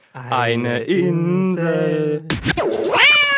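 cats meowing

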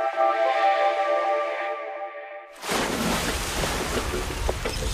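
ocean waves surf

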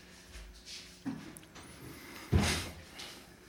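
door being closed

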